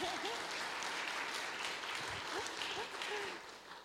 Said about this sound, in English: Oh, can we give a big round of applause to grandma too?